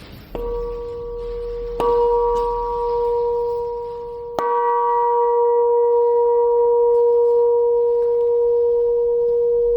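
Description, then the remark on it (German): A church bell, cast for the Landesgartenschau in Apolda and now hanging at a church entrance, decorated with Albrecht Dürer's praying hands, is struck three times at uneven intervals, each strike clear and ringing. Its steady, humming tones linger and overlap in a long, sustained decay, with no voices present. “Die Aufgabe der Glocken ist ja zu rufen, die Gemeinde zu rufen und zu erinnern an das Gebet.”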